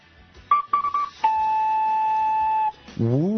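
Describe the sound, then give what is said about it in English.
A voice imitates a two-tone Alabama fog whistle: three short, steady high hoots, then one long held tone slightly lower, ending with a brief low, wavering rise. “Ooh, two-toning he is now with his Alabama fog whistle.”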